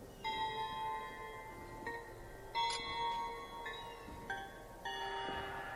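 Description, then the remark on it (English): Bright crystal bell chimes in a video game puzzle, played in a set order of notes, ring out one after another, several clear tones with long shimmering decays overlapping, with a soft background hum. “Crystal bell.”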